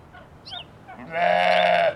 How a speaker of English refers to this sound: That's a sheep.